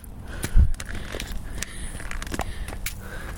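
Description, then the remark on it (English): Footsteps crunch across slippery ice and snow, with a heavy thud early on and then sharp, scattered cracks and crackles as the ice cracks, moderately loud, with no talking. “Whoa, icy. Oh, wow. That was slippery. Ooh. It's crack.”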